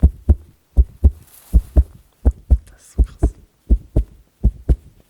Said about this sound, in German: Naja, und dann habe ich hier noch so ein Lederlachen. Das ist natürlich auch sehr schön. Ist immer irgendwie Fahnenzeug oder es wird benutzt, wenn das brennt. Ja, warte mal. Kann man aber auch sagen, oh, mein Herzschlag.